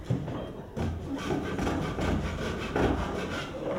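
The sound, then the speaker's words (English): A hand saw cuts through wood in steady back-and-forth rasping strokes, with a regular rhythm throughout and no voices. “He gets a saw, since he's a good carpenter.”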